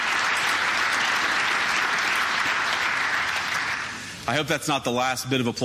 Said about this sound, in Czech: Doufám, že to není poslední potlesk, kterého se mi dostane.